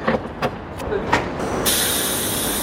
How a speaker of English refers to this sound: At a filling station in central Tokyo, that's already happening. A shiny new Toyota car is being filled with hydrogen, and I'm going to drive it. Toyota so far has not produced any battery electric vehicles. Instead, it is building this, the Mirai.